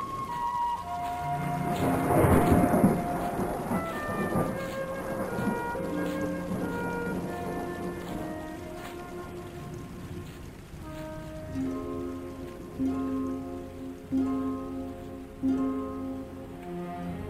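Steady rain hisses under sustained musical tones, with a loud rumble of thunder swelling early on before the rain settles into a softer, continuous patter. No one speaks.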